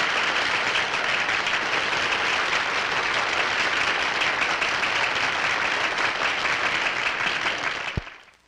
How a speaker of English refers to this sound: Gentlemen, we must proceed with Project Sigma at all costs. The delegates applaud.